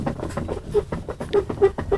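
A chair creaks over and over, a run of short, squeaky, mid-pitched groans in an uneven rhythm, fairly loud and with no one talking.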